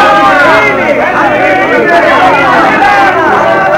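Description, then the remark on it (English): A crowd of people, including a troupe of Commedia dell'arte players after their performance, mingling and chatting in a courtyard, many overlapping voices forming a steady, loud hubbub with no single speaker standing out. “The troupe of Commedia dell'arte players have finished their performance of The Great Magician and are now mingling with the crowd in the courtyard.”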